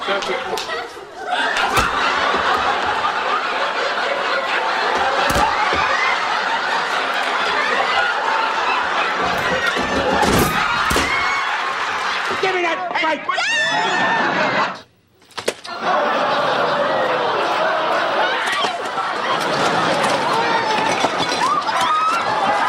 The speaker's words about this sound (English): See, folks, I don't know how much longer the crowd is running for their lives.